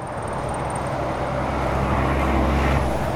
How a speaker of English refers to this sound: Cars whiz past just beyond the trees.